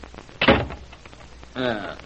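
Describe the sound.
A door is closed, locked and tried, shutting with one solid, low thump, followed a moment later by a short, steady tonal sound like a brief voiced murmur or creak.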